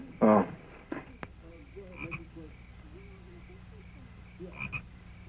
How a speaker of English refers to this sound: The frogs are in the barn.